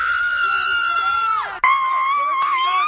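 A woman screams loudly in a video posted after a game, one long high-pitched cry that drops off, then after a brief catch a second sustained shriek carries on to the end.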